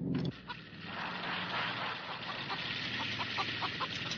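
A chicken clucks in a quick series of short calls over a steady, hissy background, with no one talking.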